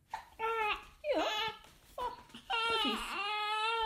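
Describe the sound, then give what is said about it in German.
A baby cries in four short, wailing bursts, high-pitched and wavering up and down, with brief gaps between them and no adult voices. “Du darfst doch mal schreien, Mensch.”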